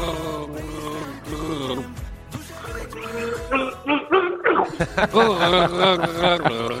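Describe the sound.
A person gargles a song for a song-guessing game, their bubbling, warbling voice rising and falling in pitch to trace a melody, briefly pausing before turning louder and choppier toward the end.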